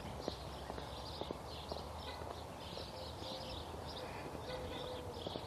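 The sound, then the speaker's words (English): Birds chirp and twitter steadily throughout on a gorgeous morning, while footsteps crunch along a hiking trail at a walking rhythm as someone hikes. “I hope you can hear these birds.”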